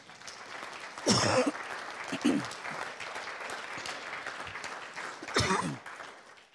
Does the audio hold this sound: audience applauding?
yes